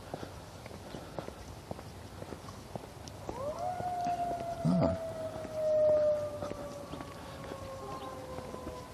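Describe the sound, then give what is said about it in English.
An ambulance siren in the neighborhood swells in partway through and holds a long, slowly falling wail over steady background tapping and rumble, with no one speaking. “The siren call. Sounds like it's in the neighborhood.”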